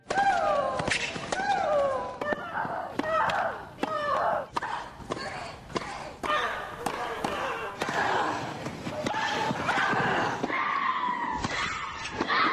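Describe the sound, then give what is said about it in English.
A fast women's tennis rally on the grass court at Wimbledon: sharp, repeated ball strikes, with a player letting out loud, high-pitched grunts on many of the hits, each cry sliding downward in pitch. “The complaints about grunting in women's tennis have gotten louder in direct proportion to the volume of the grunts.”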